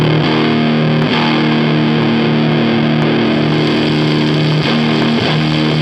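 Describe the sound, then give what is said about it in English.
A sustained, heavily fuzzed and overdriven guitar tone from a fuzz distortion overdrive effect with its white noise turned off, loud and saturated, holding steady harmonic notes with brief breaks where the chord is re-struck, no voices present. “I don't know, it's like a fuzz distortion overdrive thing with a white noise in it that I really love, because it just sounds terrible.”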